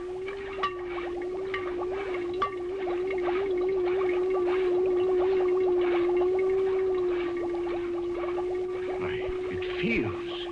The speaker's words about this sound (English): look, I'll switch on the encephalograph. Notice the faintness of the amplified alpha rays. Notice the comparatively slow rate of pulsation. Now, notice what happens when I tap on the glass jar.